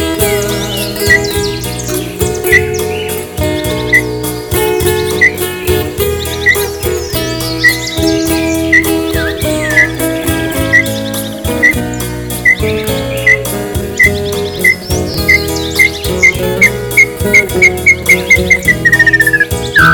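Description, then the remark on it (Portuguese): Small birds chirp in short, regularly spaced calls over steady instrumental music, ending in a quick run of rapid chirps that slide downward, clear. “Os passarinhos cantando, parecendo fazer serenata.”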